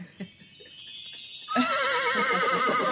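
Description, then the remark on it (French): A pony gives one loud, quavering whinny that starts about halfway through and trembles up and down, after a moment of soft hissy rustling. “Are you ready, little pony?”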